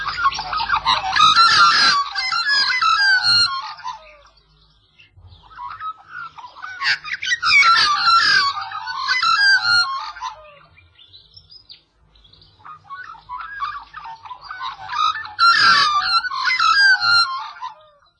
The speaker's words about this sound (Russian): Мы привыкли к тому, что вороны каркают, а вот черноспинная ворона-свистун, обитающая в Австралии, обладает мелодичным голосом. Там ворона-свистун так же обычно и тяготеет к людским поселениям, как наша ворона.